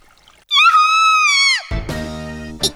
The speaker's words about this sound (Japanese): 今の悲鳴は？すみれさんの身に一体何が？